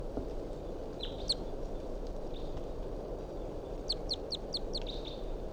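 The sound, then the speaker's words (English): A wild bird calls with short, high chirps: a brief pair first, then a quick run of about five bright notes, all over a steady, heavy rumble of background noise. “So recording a wild bird.”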